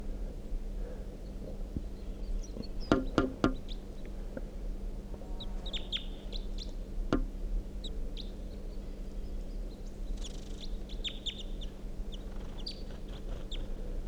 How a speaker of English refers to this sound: So we're going 9:05 a.m. and there's a wild male crossbill here, singing from that dead tree next to the net site. Pointed at the wild bird.